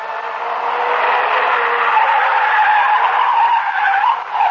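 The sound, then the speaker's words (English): A car's tires skid and squeal loudly and continuously as the vehicle swerves and circles wildly, a harsh, steady screech lasting several seconds that briefly wavers near the end, with no voices. “the car began to circle wildly.”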